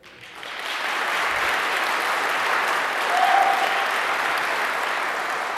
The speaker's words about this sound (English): So what I need from you guys is to generate that seismic activity. And you know, create an earthquake-like motion, which means that you need to clap really, really, really hard. So can we please have that?